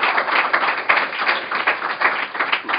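Audience applause: a steady, dense wash of many hands clapping together, fairly loud and even throughout, with occasional sharper claps standing out. No voices are heard.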